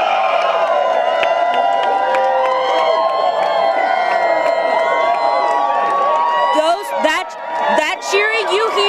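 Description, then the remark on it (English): A crowd at an election party, watching election results, cheers loudly and steadily, a dense wash of shouting voices and whoops that holds strong throughout, with a few sharper individual yells rising near the end. “Look, you can hear people are cheering.”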